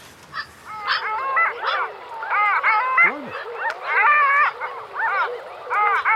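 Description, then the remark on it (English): A bufflehead duck calling, a quick run of squeaky, nasal, slightly growling notes that overlap in busy bursts. The calls are loud, with no one talking. “Now, somebody got in touch and said it was a bufflehead.”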